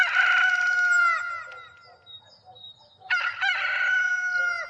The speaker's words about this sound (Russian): Когда жаркое южное солнце согрело своими лучами маленький курортный городок, она проснулась от громкого пения петуха.